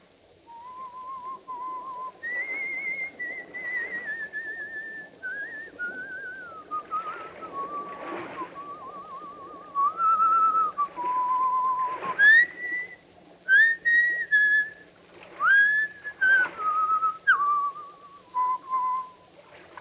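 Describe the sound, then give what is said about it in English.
A person whistles the tune Annie Laurie, a slow, lilting folk melody, with clear sustained notes gliding up and down. The whistling stands alone and runs steadily for the whole stretch. “He will pass the word Blackstone and whistle Annie Laurie.”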